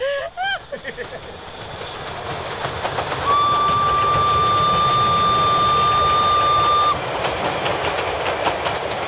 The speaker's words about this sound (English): Dear Diary, after a sleepless night, disturbed by the passing of countless trains,